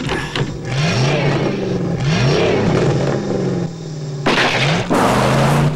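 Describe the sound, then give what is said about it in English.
A DeLorean's engine revs repeatedly at an empty drive-in movie arena, pitch climbing through several quick gear changes as it accelerates hard and speeds off, loud and continuous with a rough, roaring edge. “Hearing Doc's pistol, Marty puts his foot down and the DeLorean speeds past Doc.”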